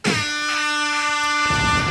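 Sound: foghorn sound effect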